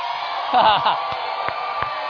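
A person gives a short, high whooping cheer, a brief rising yell lasting under half a second, followed by a few faint clicks over a steady background hiss.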